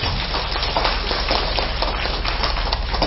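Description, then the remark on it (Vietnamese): A crowd claps together in a dense, steady burst of applause that stays loud and even for about three seconds, with no voices over it. “Xin cho một tràng vỗ tay thật lớn.”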